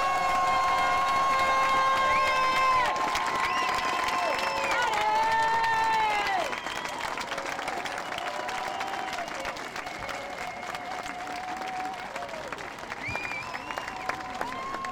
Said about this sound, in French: pour les blessés de Sainte-Soline, au lieu de faire une minute de silence, qui est trop solennelle et ils ne sont pas morts, moi je vous propose une minute d'applaudissement. Allez-y.